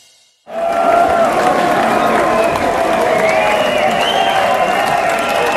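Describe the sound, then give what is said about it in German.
A concert crowd's closing applause at a sold-out show at the Huxley bursts in suddenly after a brief quiet moment, then holds as a loud, steady wash of clapping mixed with cheering and shouting voices. “Der Abschlussapplaus.”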